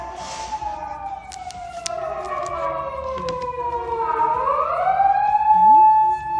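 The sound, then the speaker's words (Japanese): An ambulance siren wails past outside on a road very close by, its long gliding tone sweeping down and then rising again, growing louder toward the end as it drives by. “めっちゃ救急車の音入っちゃった。”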